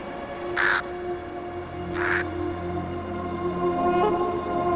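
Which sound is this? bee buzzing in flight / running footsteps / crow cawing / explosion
crow cawing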